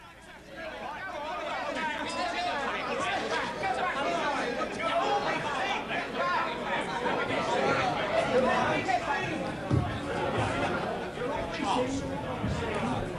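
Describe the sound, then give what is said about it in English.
A large crowd of red-headed job applicants chatters steadily, many overlapping voices merging into a dense, continuous babble with no single speaker standing out, holding at a fairly even level throughout. “This crowd of red-headed applicants served as a cover for the existence of a single target applicant.”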